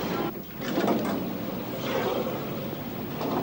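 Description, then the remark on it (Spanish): Elevator doors slide open with a steady mechanical rumble and hiss, lasting a few seconds at moderate volume, with a slight swell partway through, as a man steps out looking from side to side. “Arriba Ted sale del ascensor mirando a los lados.”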